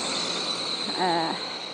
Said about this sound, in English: I don't know if you can, we can't now because the car's gone past, but I'm really surprised at this time of the morning just how noisy it is. All the birds are at full pelt this morning. We're absolutely deafened by birdsong.